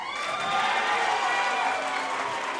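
A crowd at a debate in Queens boos loudly at a candidate's answer that he would support President Obama's reelection, a steady, unbroken roar of many voices sustained for a few seconds with no individual speech standing out.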